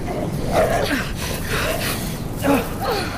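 Dogs bark and yip in a few short, sharp bursts against a steady rushing background, the yelps coming at uneven intervals.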